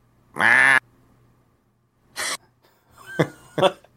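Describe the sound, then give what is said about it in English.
A voice imitates the roar of a Spinosaurus with a loud, harsh, high-pitched squawk lasting about half a second, followed by a few shorter, rougher vocal bursts after a pause. “You know what its roar would sound like? It would sound like...”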